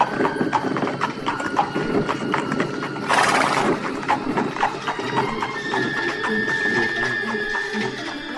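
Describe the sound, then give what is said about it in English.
Horse hooves clip-clop in a steady, rapid rhythm throughout, joined midway by a short burst of rushing noise and later a thin, high whine, with no voices. “Look at this one on my horse.”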